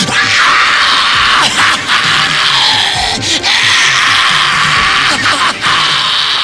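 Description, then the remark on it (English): A woman screams triumphantly to the sky after killing a man, a loud, raw, sustained cry that carries for several seconds with only brief catches of breath, overpowering, with no other speech. “And then again, she's like screaming to the sky, like, yes, this is exactly what I wanted.”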